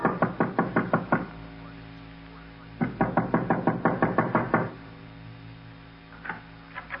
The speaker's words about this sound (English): there was another knock on the front door. And this time, our caller wasn't expected.